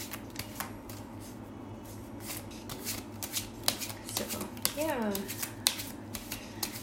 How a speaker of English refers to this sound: Yeah, Lemonade doesn't want to give me any cards. It's probably some bad news. She's just like, stop shuffling now.